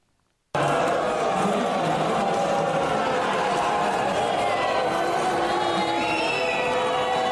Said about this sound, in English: Vice President J.D. Vance and Usha Vance were met with a chorus of disapproval as they attended a concert Thursday night at the Kennedy Center. The audience loudly booed as they took their seats for a performance of the National Symphony Orchestra.